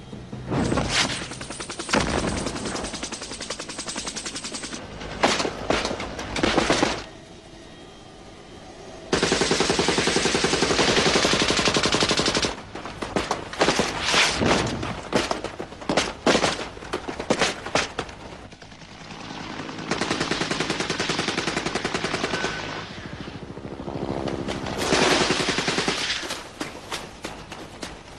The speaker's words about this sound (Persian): همه چی اماده است؟ اماده شلیک است. بریم بالا با یه شلیک راشونو میبندن.